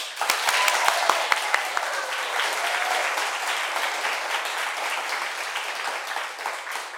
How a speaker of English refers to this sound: I just clapped for myself. That's good. It helps with the sound effect aspect of it.